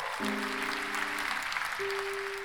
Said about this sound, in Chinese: 老师现在要来颁发模范生奖章给爱丽丝，同学们给爱丽丝拍拍手。